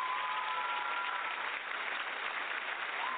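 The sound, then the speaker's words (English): A crowd gives the Lord a hand clap of praise, clapping together in a dense, steady wash of applause that holds at an even level throughout, with no single claps standing out and no voices heard. “So let's give the Lord another hand clap of praise.”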